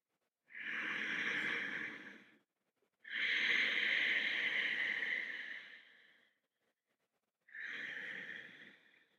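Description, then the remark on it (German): Slow, deep Ujjayi breaths during a yoga practice, with a hissing, ocean-like throat sound, steady: a long inhale, an even longer exhale, then another breath begins. No talking. “Atmet tief ein und tief aus im Ujjayi-Atem.”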